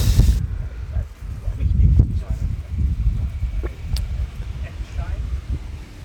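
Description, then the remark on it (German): Strong wind picks up outdoors just after rain, buffeting the microphone with a steady low rumbling roar and gusty surges, while a voice talks faintly underneath. “Jetzt kommt richtig der Wind auf und so.”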